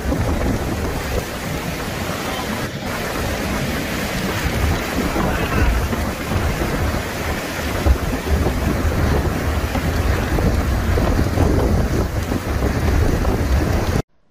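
Loud, steady roar of storm wind blasting without pause, a dense rumbling rush that stays intense throughout, with no voices and an abrupt cut at the end.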